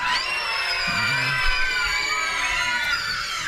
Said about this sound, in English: And you know, actually we're gonna need some help with this. We're gonna need some help with some screams from the witches. You guys wanna practice one scream? One, two, three.